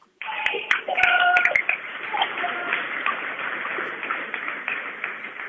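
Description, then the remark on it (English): Crowd clapping at a basketball game, a dense, steady patter of many hands with a few sharp, louder claps near the start, mixed with indistinct crowd murmur throughout. “Yeah, I think so, because, yeah, the crowd was clapping.”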